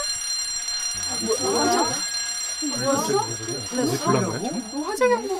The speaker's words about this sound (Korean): 여보, 이게 뭐야? 화재 경보 아니야?